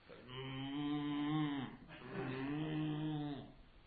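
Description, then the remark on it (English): A cow moos twice in close succession, each call a long, loud, drawn-out low bellow, with no voices around it. “It's a mobile phone almost, because it sounds just like a cow.”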